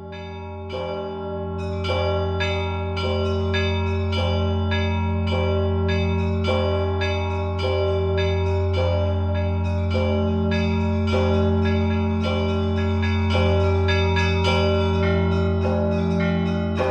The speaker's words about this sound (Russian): Давайте послушаем звон относительно недавно, 20 лет тому возрожденного Казанского собора на Красной площади с замечательным подбором колоколов Ярославского завода Аллы Винишниковых.